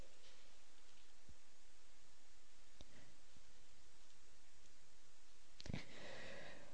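Quiet papery rustling as Bible pages are turned to a chapter of the Gospel of Mark, with a few soft taps and one brief, louder swish near the end, over a faint steady hiss and no talking.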